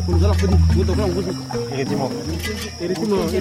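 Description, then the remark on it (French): Harsh, repeated honking calls of a great hornbill rise over a dense night-time chorus of wild nocturnal animals and tropical insects at a remote bush camp, with a steady high insect drone and a low rumble running underneath throughout. “C'est un grand calao.”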